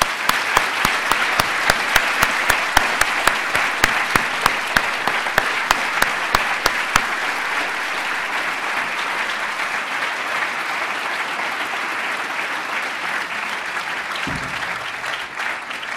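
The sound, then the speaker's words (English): An audience applauds steadily after a speech about the European Union at an event, sharp individual claps standing out at first before merging into a dense, even wash of clapping that continues throughout, with no talking over it. “We don't have so much time, so we can do the applause at the end of the of the event, perhaps.”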